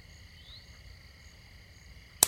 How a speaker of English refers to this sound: Oh, jeez. A mosquito? Yeah. They woke me up about an hour ago.